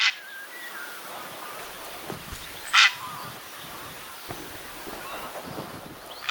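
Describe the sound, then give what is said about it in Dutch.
Harsh, hoarse croaking calls of a purple heron ring out in short raspy bursts, one near the start, a loud one midway and another at the end, over a steady low background hum. “Het geluid van de purperreiger is meer een schorre roep, krassend of grommend.”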